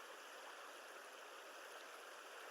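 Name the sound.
flowing river stream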